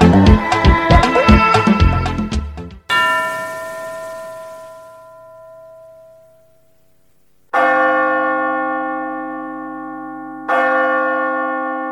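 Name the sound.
church bell tower ringing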